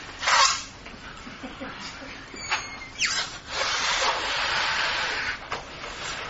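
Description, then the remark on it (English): Three volunteers blow up balloons and hold them without tying them off, with a series of breathy, hissing puffs of air, some short and sharp, then a longer sustained exhale, and no talking. “Blow it up. Don't tie it off. Just blow up and hold, if you would.”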